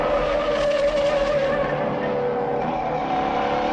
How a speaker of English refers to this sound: Many people say this chase scene revolutionized Hollywood car chases. 10 minutes of heart-pounding action had never been done before in a movie. Film critic Leonard Maltin calls the chase one of the screen's all-time best.